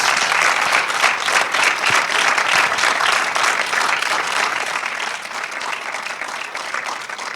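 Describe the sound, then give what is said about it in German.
A crowd at a film event applauds steadily for several seconds as the director and the author of the film Endzeit are invited onto the stage, a dense crackle of many hands clapping at an even, loud level that eases off slightly toward the end, with no voices over it. “Bitte einen Applaus.”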